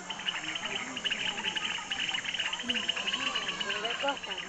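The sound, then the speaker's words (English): A steady, dense chorus of frogs singing in a creek beside a community-run school, a shrill pulsing trill that never lets up, with a few lower croaks and calls scattered through it. “Their children attend a community-run school next to a creek that's filled with singing frogs.”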